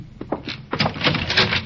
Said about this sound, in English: Close the door, thank you.